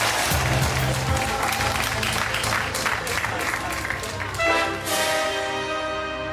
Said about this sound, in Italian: Vedo, sì, è fatta, ha toccato. La tensione di 7 ore di attesa si è sciolta in un forte applauso globale.